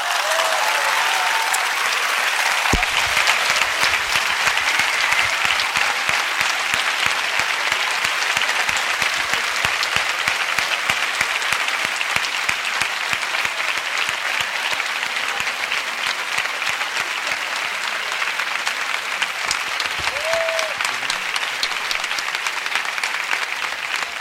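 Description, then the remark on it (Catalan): Sustained, dense applause from a large crowd at the end of the Festa Major proclamation speech in Sitges fills the full stretch, steady and loud throughout, with faint cheers and whistles rising briefly above the clapping. “Doncs aquest llarg aplaudiment acompanyat d'aquest final esclatant del pregó que ha declamat”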